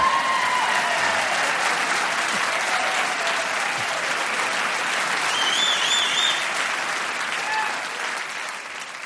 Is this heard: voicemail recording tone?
no